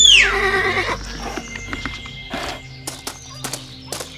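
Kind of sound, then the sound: animal, horse neighing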